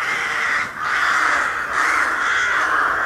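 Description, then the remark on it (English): A dense, continuous chorus of many crows cawing at once in a forest at night, harsh overlapping calls filling the air loudly with no pauses. “Tell you what, at night time in the forest, fucking hell, there's so many crows in here.”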